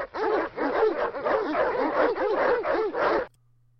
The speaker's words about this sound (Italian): I lupi li seguirono abbaiando in coro, e Buck corse con loro fianco a fianco del fratello selvatico, abbaiando mentre correva.